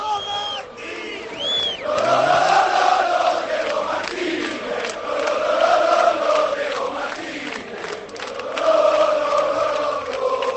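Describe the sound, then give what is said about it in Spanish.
About 3,000 football fans in a stadium shout together for coach Diego Martínez in a loud, sustained roar that swells and dips in waves, with chant-like pitched voices running through it for about ten seconds. “Os escucha Diego Martínez, que griten como antes habéis gritado a favor del entrenador, ¿eh?”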